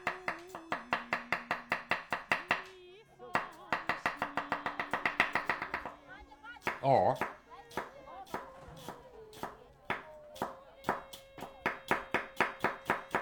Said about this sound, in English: You hear some people chopping. Tired after a whole day.